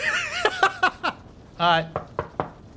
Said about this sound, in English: I guess I knock. Okay, I was going to say, if you just open the door, that's a different thing.